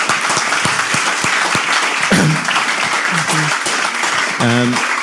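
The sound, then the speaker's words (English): An audience at a talk breaks into a loud, steady round of applause thanking a writer and musician guest, dense clapping filling the whole stretch, with a few brief voices and cheers rising through it. “A quick round of applause would be nice.”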